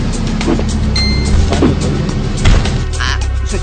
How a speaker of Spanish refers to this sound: Y acá luego viene el carro de policía, con el que finalmente ya no puede escapar.